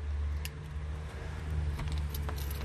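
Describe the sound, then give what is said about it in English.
Keys jangle in a few brief metallic clinks as someone unlocks the front door of a family house, over a steady low rumble like an idling engine. No one speaks. “It's one of the criteria for this house, you have to have a key.”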